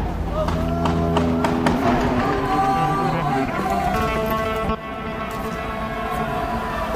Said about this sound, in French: La foule s'en va en courant apparemment. Des véhicules des forces de sécurité se rapprochent.